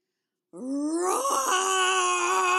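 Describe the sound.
A single long, loud roar made by a human voice imitating a lion during a 'going on a lion hunt' story, starting after a short silence, rising slightly in pitch and held with a rough, strained tone.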